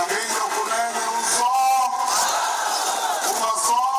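A crowd of tens of thousands of supporters cheers and chants at a final election rally of a main party in Angola's capital, a sustained roar of many voices with rising and falling shouts, steady and loud throughout with no single clear speaker.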